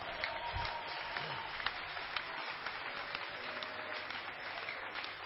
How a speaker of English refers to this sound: Won't you clap your hands for Jesus?